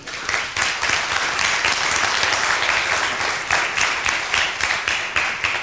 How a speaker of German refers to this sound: Erstmal Applaus abgreifen, hast du verdient.